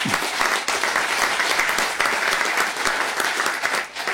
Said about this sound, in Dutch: Daar mag een applaus bij.